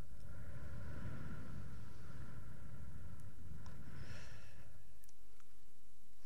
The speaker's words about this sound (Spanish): haciendo 3 respiraciones profundas, inspirando por la nariz, exhalando por la boca, notando las sensaciones del aire.